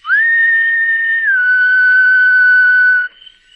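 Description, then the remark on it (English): A single sustained soft human whistle, whistled up toward a second-story window from the lawn of a shingled house on Pine Street in the suburbs of Metropolis, rising at the start then holding a steady tone with a slight dip midway, lasting about three seconds before cutting off, clear. “Looking up, he whistled softly.”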